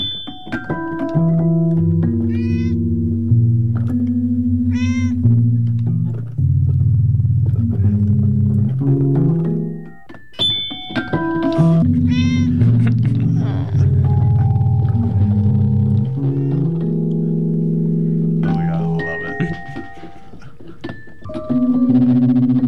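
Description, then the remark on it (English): Haphazard, unmelodic notes and clusters from a Fender Rhodes 88-key electric piano ring out fairly loud as a cat, a performer, presses the keys, with overlapping sustained tones and brief gaps, and no talking. “Here's …, and she's playing on the Fender Rhodes 88 key electric piano from her record called ….”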